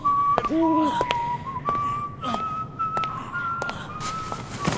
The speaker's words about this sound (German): Fröhlich pfeifend schleppte der Diener Otto davon.